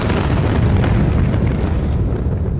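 A deep, heavy explosion rumble roars continuously at high volume, dense with low-end thunder and crackling debris, sustained for a few seconds without any voices.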